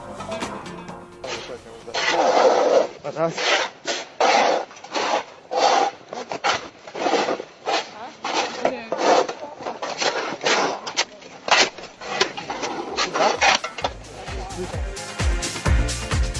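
A snow shovel wielded by Rasim Ljajić scrapes and chips at ice while clearing snow at the gerontology centre on Bežanijska kosa, in a steady run of harsh, gritty strokes, about one or two each second, loud throughout and ending in a rougher, clattering flurry.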